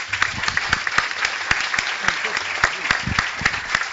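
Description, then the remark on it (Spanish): An audience applauds steadily for several seconds to welcome the members of the Friday discussion group (tertulia) of En Perspectiva: many hands clapping in a dense, continuous patter with sharper individual claps poking through, and no one speaking. “Señoras y señores, con el aplauso de ustedes, los integrantes de la tertulia de los viernes.”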